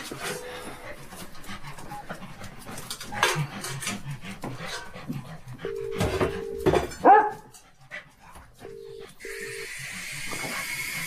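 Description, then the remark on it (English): Dogs pant in quick, breathy bursts as they are being fed, with a few short whimpers and a sharp bark or two breaking through, and no one speaking. “I'll get Jeff to take the dogs. I'd better feed them now.”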